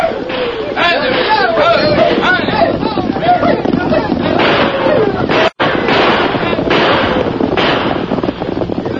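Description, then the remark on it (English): A chaotic, continuous din of many galloping horses, wild shouting voices and bursts of gunfire in the deserted streets of a town at night, loud throughout, with a split-second drop to silence partway through. “Suddenly, the deserted streets of Jericho echoed with the hoofbeats of many horses. There were wild shouts and the thunder of gunfire.”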